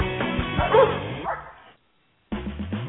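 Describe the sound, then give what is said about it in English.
Team Aneke's sled-racing huskies bark and yip in a dense, overlapping chorus, then fall silent for a moment before another loud burst of barking and whining starts up. No one speaks. “Mosh, you Huskies!”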